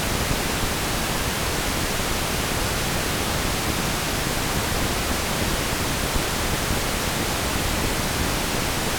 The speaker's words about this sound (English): Here's a quick polarity test. Here's pink noise in polarity at the two speakers. It should exhibit a strong center phantom image when you are on the median plane.